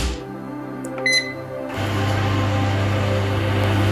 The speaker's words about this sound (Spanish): Clara, nuestra protagonista ahora, calienta la leche en el microondas.